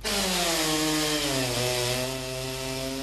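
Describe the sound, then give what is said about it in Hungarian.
A chainsaw roars as it cuts through wood in timed sawing practice by lumberjacks training for a world championship, in Székelyhíd, Romania; its engine whine holds steady, then dips in pitch as the blade bites in. No voices are heard. “Fűrészelnek kézzel, láncfűrészsel, mindezt időre.”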